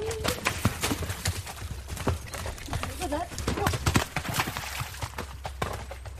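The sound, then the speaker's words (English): Horse hooves clip-clop in a steady run of sharp strikes, with indistinct voices murmuring in the background and a brief tonal squeal near the start. “I keep my horse in livery because it suits me.”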